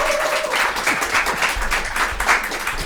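An audience claps steadily for a few seconds, a dense, even patter of many hands at a lively, moderate loudness with no one speaking over it.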